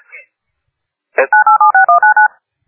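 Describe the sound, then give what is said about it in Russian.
A quick run of about eight touch-tone telephone dialing beeps, evenly spaced and loud, follows a brief click. No one speaks over the tones. “Телефон? Да.”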